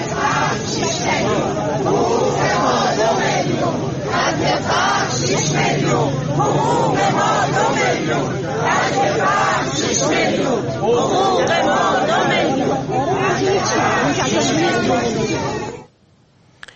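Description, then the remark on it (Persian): A dense crowd of many voices talking and calling out at once at a protest gathering of retirees in front of the Plan and Budget Organization in Tehran on a Tuesday, a loud continuous babble with occasional louder shouts, cutting off abruptly at the end. “در اینجا ابتدا ویدیویی داریم از تجمع اعتراضی بازنشستگان در تهران در مقابل سازمان برنامه و بودجه که روز سه‌شنبه انجام شد.”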